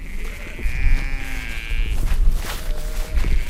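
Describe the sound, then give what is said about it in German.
Sheep grazing behind a fence on Tempelhofer Feld bleat: a long wavering bleat followed by shorter overlapping calls from several animals, over a low rumble of outdoor background noise. “Entlang des Zaunes, hinter dem die Schafe im Tempelhofer Feld weiden, hat sich ein Trampelpfad gebildet.”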